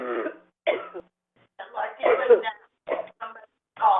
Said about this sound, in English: Yes, there is someone coughing on the phone, and that can be an interruption, certainly.